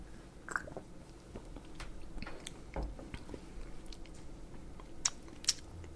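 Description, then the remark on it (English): Quiet mouth sounds of someone sipping and tasting a spicy beer: soft slurps, wet lip smacks and tongue clicks scattered throughout, with two sharper smacks near the end and no talking. “Why don't we take a sip?”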